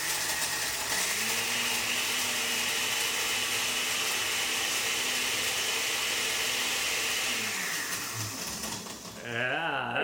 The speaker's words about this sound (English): Blend it all up and then pour it into glasses for the drinking purposes. All right, we'll see how this goes. This is what blenders sound like.